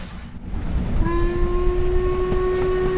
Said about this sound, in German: Dann biegt der Jacobite Steam Train ins Landesinnere ein